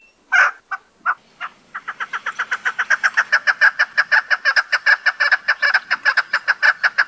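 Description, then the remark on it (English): A chukar partridge gives its most common call alone, starting with a few scattered clucks that quicken into a loud, steady run of rhythmic chuck notes repeated many times in rapid succession. “Their most common call is given by both sexes, and if you use your imagination, sounds like their name.”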